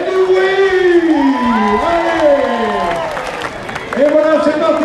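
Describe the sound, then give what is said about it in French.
A crowd cheers and whoops for runners at a half-marathon finish line at the Stade Henri-Jeanne in the morning, in dry weather with little wind, with loud, rising and falling shouts and scattered applause forming a steady, excited roar throughout. “Avec le départ du semi-marathon donné dès 9h et la ligne de départ et d'arrivée installée au stade Henri-Jeanne, des innovations payantes, écoutez l'ambiance et le bonheur des coureurs hier matin.”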